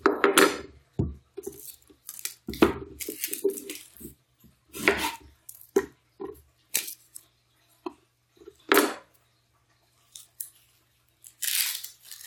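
A knife chops a half-deteriorated onion on a cutting board for sautéing, in a run of sharp taps with short pauses, plus a few brighter scraping and rustling sounds toward the end.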